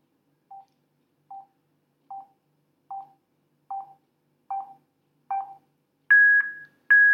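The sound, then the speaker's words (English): A series of short electronic beeps from an iPhone loudspeaker as the volume-up button is held, at a steady pace, each one louder than the last up to the speaker's maximum, with the final beeps jumping to a higher, brighter pitch. “So I'm going to hold the volume up on in now, and you hear the beeps as they get louder.”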